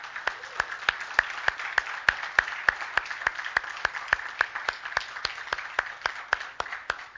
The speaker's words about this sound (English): So why don't we give the Lord a hand clap for what he's done.